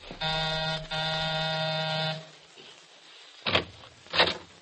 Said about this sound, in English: Okay, this is it. Ring a bell, Sid.